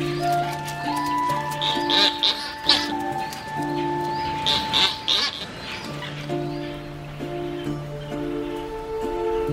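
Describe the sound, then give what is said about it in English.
A dense, continuous chorus of many Buller's albatrosses calling at a breeding colony: overlapping honking and droning cries with sharper squawks that rise and fall throughout. “The other birds come and go.”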